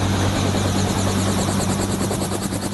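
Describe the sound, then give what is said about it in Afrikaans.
A helicopter carrying a 16-year-old girl on her first helicopter ride: its rotors thump in a steady rapid rhythm over a loud, continuous engine whine, constant throughout with no speech. “Dis die eerste keer dat die 16-jarige Adila in 'n helikopter klim.”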